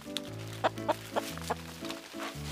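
hen clucking

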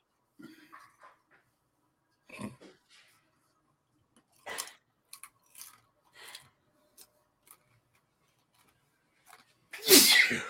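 sneeze

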